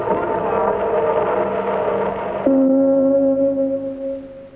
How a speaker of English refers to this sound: The Luxembourg gong preceding the Caroline bell.